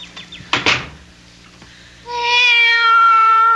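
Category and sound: animal, cat meowing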